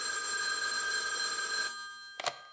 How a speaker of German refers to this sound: Er geht zum Telefon und wählt die Nummer des Bürgermeisters.